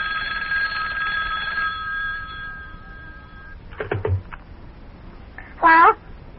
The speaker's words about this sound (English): Uh-oh, telephone's ringing again. I'll get it. It's probably for me.